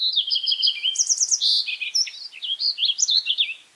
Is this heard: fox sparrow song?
yes